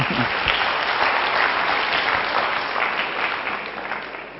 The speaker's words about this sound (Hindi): ठीक सर बैठ सकते, ताली तो बजा दो।